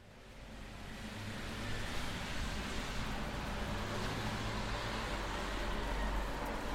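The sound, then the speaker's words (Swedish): A steady, dense roar of traffic on Hornsgatan in Södermalm, central Stockholm, on a Friday afternoon, with rumbling car engines, rising slightly in the first seconds and then holding a constant, broad wash of noise with no voices. “Det är full fart här med både bilar och människor som hastar fram längs trottoarerna.”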